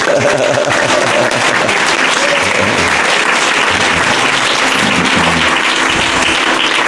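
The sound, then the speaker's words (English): A crowd at a retreat claps steadily and loudly for the host for several seconds, a dense, continuous patter of many hands with no voices standing out. “So, ladies and gentlemen, take your both hands for a massive round of applause.”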